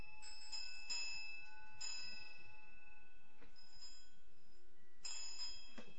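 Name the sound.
small hand bell ringing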